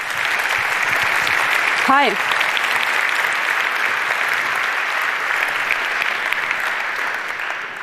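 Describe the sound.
A crowd claps steadily and loudly for several seconds, a dense even patter of applause; a single voice briefly greets the audience over it near the start.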